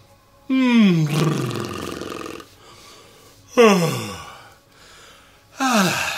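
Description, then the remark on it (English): Three buzzy lip trills made as part of a vocal warm-up, each starting high and sliding down in pitch, fairly loud with a breathy rasp, separated by short quiet gaps and no talking. “And start to move the lips and do some lip trills.”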